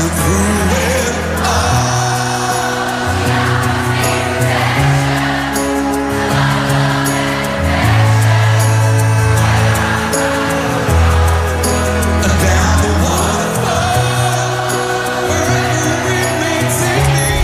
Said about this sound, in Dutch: En ik weet nog wel dat het hele publiek meezong. Ik heb, het is niet precies van dat concert, maar wel ongeveer rond die tijd. Dat klonk zeg maar zo.